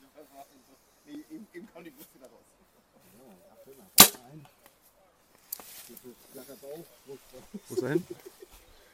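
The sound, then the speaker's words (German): A single sharp, loud crack as an arrow shot from a bow at an estimated 38 meters strikes its target high, in mixed light with the sun slightly from the front and wind no problem, with a person talking quietly before and after the impact. “Guter Schuss, hoch, vielleicht noch eine 8, könnte gut sein.”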